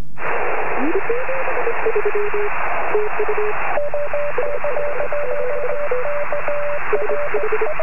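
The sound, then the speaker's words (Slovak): Amateur radio Morse code telegraphy: steady hiss of shortwave static with clipped beeping tones in uneven dots and dashes, a second slightly higher-pitched signal taking over midway. “Takto teda znie telegrafné spojenie rádioamatérov v Morzeovke.”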